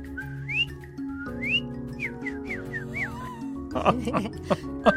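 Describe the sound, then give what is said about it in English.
A person whistles an imitation of a cardinal's call: a quick series of bright, upward-slurring notes repeated several times over a low steady hum, followed by a short noisy burst of voices. “Was that you? Are you doing that? Yeah, it's my cardinal.”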